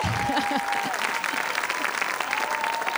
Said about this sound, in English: you got like a cheering crowd over here.